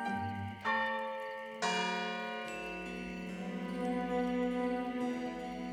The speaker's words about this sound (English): When she heard the bells ring noon in the town square, she saw it too.